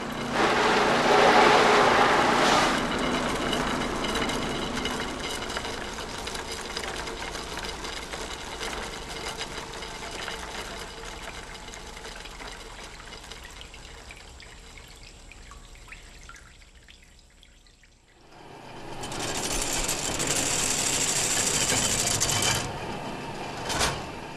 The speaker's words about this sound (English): This is a measuring machine, and it basically measures the square footage of a skin. It has all these pulleys with the little dials.